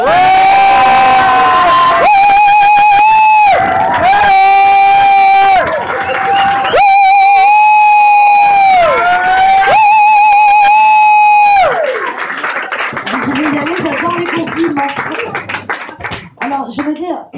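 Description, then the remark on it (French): A crowd cheers loudly with shrill, sustained whoops and whistles, then breaks into dense, steady applause that fills the last few seconds, enthusiastic; the audience is applauding a performer singing a goguette for the first time. “Mesdames, messieurs, on va applaudir deux fois plus fort”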